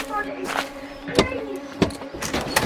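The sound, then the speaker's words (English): A car boot opening, with a few sharp mechanical clunks of the latch and lid spaced about half a second apart over a low steady hum, moderately loud. “there appears to be someone inside the boot of your car. Oh, Lord, yes. I completely forgot. John, isn't it? Aye. Be a good boy and open it”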